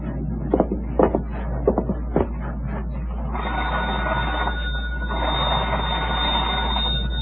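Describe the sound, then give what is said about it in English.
A few sharp mechanical clicks and rattles, then an old telephone bell rings continuously in a steady metallic trill as a call is placed to the operator, over a low background hum with no one talking. “I'll telephone the girl.”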